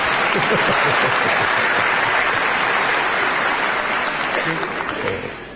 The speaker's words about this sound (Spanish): Pero bueno, tiene los guantes puestos, no suena el aplauso no del bombero. Suena, el aplauso del bombero es... Bueno. Es apagado. Es completamente apagado.